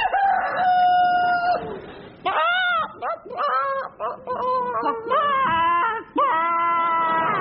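rooster crowing

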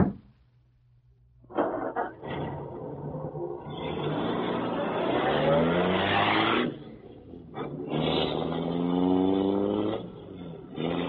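car engine running

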